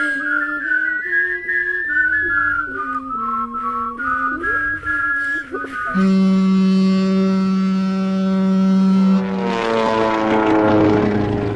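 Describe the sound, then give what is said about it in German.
An aircraft flying over the Mediterranean Sea drones with a warbling, whistle-like engine tone that wavers in pitch, settling into a steady loud hum before a bright rising sweep at the end. No one speaks. “Gerade fliege ich mit meiner Europa-Schnellflugzeitmaschine über das Mittelmeer.”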